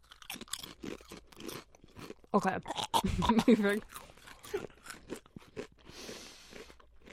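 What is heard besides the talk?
crunching potato chips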